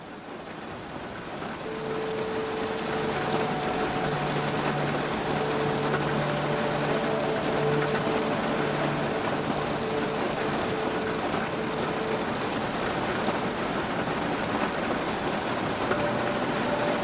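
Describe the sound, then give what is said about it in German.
Steady, dense patter of rain falling without a break, a continuous hiss with faint low droning tones running underneath. No voices. “Klang der Regentropfen lullt dich langsam ein, wie eine beruhigende Melodie, die dich sanft in den Schlaf geleiten wird.”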